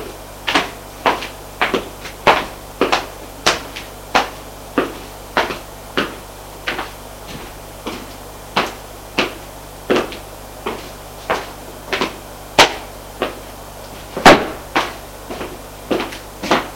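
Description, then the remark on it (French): Knocking on a door, a long steady series of sharp wooden raps at an even rhythm, some falling in quick pairs, fairly loud, with no voices. “Frappe à la porte.”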